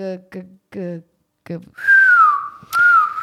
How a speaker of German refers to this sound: Aber ich kann so pfeifen.